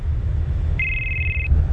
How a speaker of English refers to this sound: It says your name on the phone. It says Alfredo. I'm calling the phone right now.